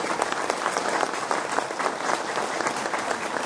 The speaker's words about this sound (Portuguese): Agradeço em nome de todos pela sua valiosa contribuição, pedindo uma salva de palmas ao nosso querido ex-presidente Luiz Cury.